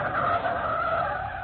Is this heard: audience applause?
no